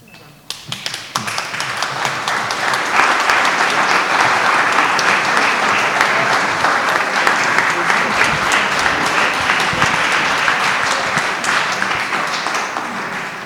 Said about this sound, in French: Bon, je crois qu'on peut le dire, merci, les applaudissements en témoignent.